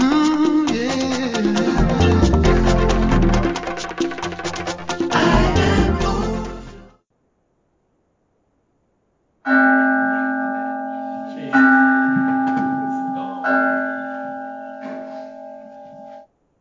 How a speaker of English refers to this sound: So as the mindfulness bell diminishes, it takes us into the sacred silence, a silence that's always there.